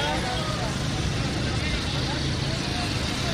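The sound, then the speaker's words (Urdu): A steady, dense roar of busy street traffic in Lahore after iftar, cars and motorcycles piled up on the roads rumbling past without a break, with indistinct voices mixed into the constant noise. “اس کے باوجود موٹر سائیکلیں گاڑیاں سڑکوں پہ ڈھیر لگا ہوا ہے.”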